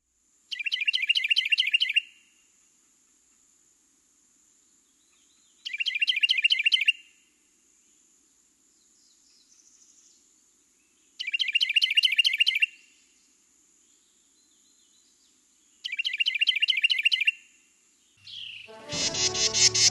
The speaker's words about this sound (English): And our top bird at number eight is, of course, the Carolina Wren with its tea kettle, tea kettle, tea kettle.